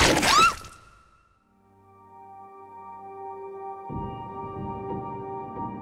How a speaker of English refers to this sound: What does this sound like? The main components of this sound, one was a ball bearing ricochet off of a hard wall, a loud pop, and an apple bite. Also, ripping paper. The end result sounded like this.